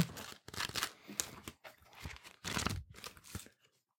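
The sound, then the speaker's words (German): A quick series of papery rustles and flicks as pages of two paper notepads are flipped, about half a dozen crisp bursts in an uneven rhythm with no talking. “Dafür, dass sie durch das Blättern von zwei Blöcken hergestellt wurde, ist das eine bemerkenswert vierschichtige Frage, finde ich.”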